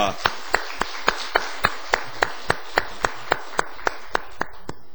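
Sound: audience applause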